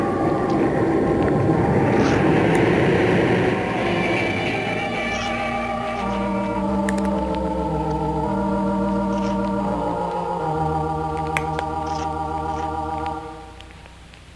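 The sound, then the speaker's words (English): A ship's engines roar to life with a loud, rough rumbling burst, then settle into a steady, humming drone of layered tones that shift in pitch before fading at the end. “Is it clear for me to start the engines?”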